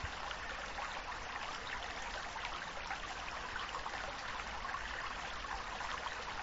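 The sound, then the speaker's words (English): A steady stream in a valley trickles and burbles without pause, a dense, even wash of flowing water, with no voices or other sounds. “Below, in the valley, the water rolled on, as it had for an eternity.”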